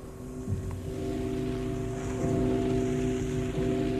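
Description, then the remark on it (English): A great church bell, cast in 1688 by a Rostov craftsman and weighing 33 tons, rings with deep, sustained humming tones, renewed by a few fresh strikes about a second apart, over a low rumbling background with no voices. “Listen to the bells. Listen to the great bell cast by Flor Terentyev, a Rostov craftsman, in the year 1688”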